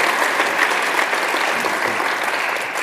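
audience applause

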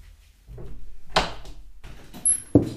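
door being opened

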